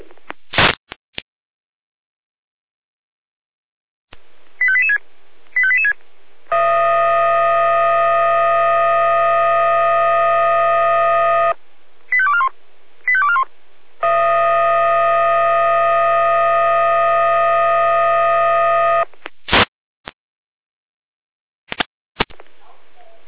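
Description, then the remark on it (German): Fire brigade radio alerting tones from the dispatch centre (Leitstelle), alerting Florian Klein-Eudersdorf and Florian Lindig to a tree on a cycle path in Klein-Eudersdorf: short chirping beeps, then two long, steady, buzzy electronic tones, each about five seconds, separated by more quick chirps and framed by radio channel clicks. “Leitstelle, hier mit Alarmierung.”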